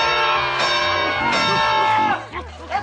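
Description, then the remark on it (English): A crowd screams together at the secret word on Pee-wee's show, a loud, sustained burst of many high voices, pitches wavering and sliding, before the noise breaks apart and fades near the end. “A great big scream is what we heard.”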